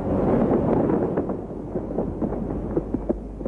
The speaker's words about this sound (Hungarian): Tűzijáték, sötétség. A 70-es, 80-as években ilyen is volt a fénycsoda. A robbanások néha olyan lassan követték egymást, hogy volt, aki a műsor alatt elindult haza.